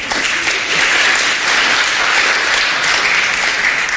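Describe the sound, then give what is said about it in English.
A crowd applauds in a steady, dense wash of clapping that holds at an even, fairly loud level for several seconds, with no voices standing out. “I'm not so sure, those of you who are clapping, what would you have done during World War II?”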